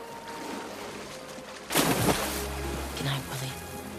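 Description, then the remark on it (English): A whale turns round and its fin smacks the water once in a wave, a sudden loud splash that breaks over a low, steady watery background, followed by softer sloshing as the surface settles. “turns round, then slaps the water, waving with a fin.”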